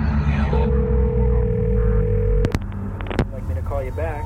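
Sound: telephone ringing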